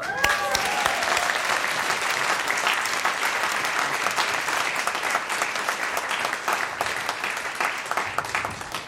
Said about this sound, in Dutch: We hebben een muzikale gast. Dat is leuk. En ik zou zeggen, without further ado... een groot applaus voor